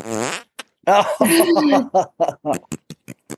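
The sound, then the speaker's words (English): A novelty fart machine lets out a loud, buzzy raspberry, then a long sputtering run of rubbery bursts that get shorter and choppier as they trail off. “So it's a fart maker.”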